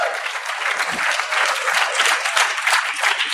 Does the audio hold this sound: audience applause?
yes